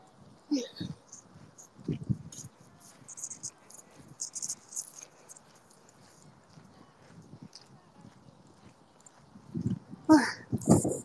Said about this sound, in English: Can you guys hear my footsteps? The ground is very sandy.